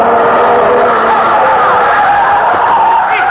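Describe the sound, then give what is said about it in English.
A car making a right turn at the intersection of 15th Street and 4th Avenue skids into a pedestrian crossing the street, its tires screeching in a loud, continuous skid lasting a few seconds against a dense wash of street noise, with no distinct impact standing out. “He hit him! That wasn't much. Wow, look at those tire marks.”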